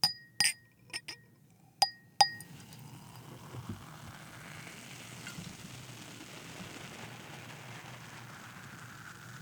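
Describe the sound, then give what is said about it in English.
A few bright glass clinks ring out at the start, then a steady crackling fizz of champagne in a glass carries on without a break until the end. “But on the champagne, usually you go can to the fill top.”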